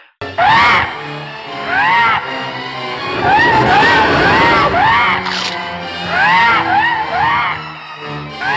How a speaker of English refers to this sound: And remember, this is a puppet. So it's got goofy eyeballs. It's got an annoying shriek, a terrible annoying shriek that you hear all the time.